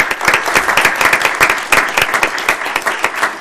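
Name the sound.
audience applause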